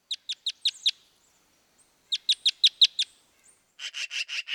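Red crossbills in the top of a ponderosa pine give sharp, high chip calls in quick runs of about five notes, pausing between bursts, then a harsher, buzzier series at the end. The calls are clear, with no talking.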